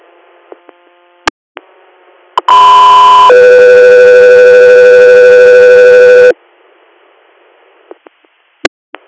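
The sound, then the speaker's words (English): A loud two-tone radio dispatch alert, preceding an air ambulance interfacility transfer request: a short higher tone drops into a longer steady lower tone lasting about three seconds, framed by faint static and sharp clicks of a radio keying before and after. “Go through your standby for tones.”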